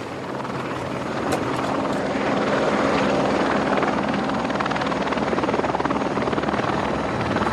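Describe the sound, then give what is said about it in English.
A helicopter drones steadily in flight, loaded with measuring equipment, mostly bags of 10-foot-long aluminium poles, with the front seat removed. Its dense engine roar and rapid rotor chop fill the whole stretch, loud as heard from inside the cabin. “The helicopter pilot on board, he has a rifle for polar bears.”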